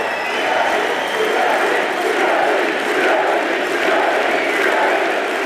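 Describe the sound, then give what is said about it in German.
A large crowd of hockey fans roars and cheers continuously for 41-year-old player Andres Ambühl, with a dense wash of applause and shouting that stays loud and steady throughout. “Vom Publikum ist der 41-Jährige mehrfach bejubelt worden.”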